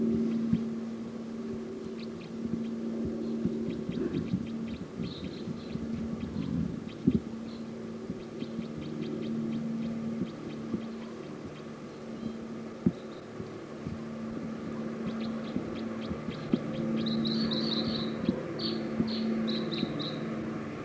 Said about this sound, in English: Decoys calling loud now.